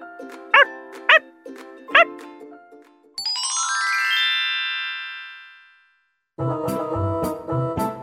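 A pet puppy named Max gives three quick, high-pitched yips over light background music, followed by a bright rising chime and a burst of upbeat music.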